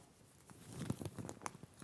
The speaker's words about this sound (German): Und er nimmt diesen Schuldschein und dann zerreißt ihn.